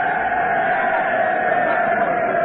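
A large crowd cheers in a steady, continuous roar, a dense wash of many voices holding at an even, fairly loud level throughout, with no single voice standing out.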